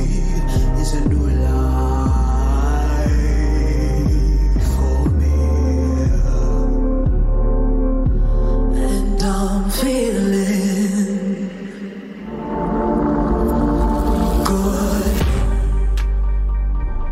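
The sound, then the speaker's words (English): A woman sings a soulful cover over a loud, full band with steady beats, her voice ranging from deep low notes up to piercing whistle-register tones near the end. “I'm literally commenting on the range of notes which she sings in this cover.”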